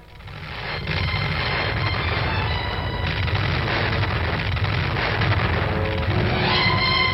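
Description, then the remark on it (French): A massive atomic bomb explosion roars in after a brief build, then a deep, sustained rumble fills the whole seven seconds, loud and unbroken, with a crackling, distorted edge and no voices. “Voici 10 ans, la ville d'Hiroshima était rasée par l'explosion de la première bombe atomique qui fit, selon la Croix-Rouge japonaise, 240 000 morts et 150 000 blessés, dont un grand nombre devait succomber par la suite.”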